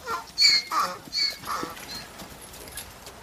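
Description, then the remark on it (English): Donkey hooves clip-clop on a hard road in a steady rhythm as the donkeys pull riders through an island, a handful of crisp hoofbeats that grow softer as the animals move along. “I ate my birthday cake as we rode through the island, pulled along by the donkeys.”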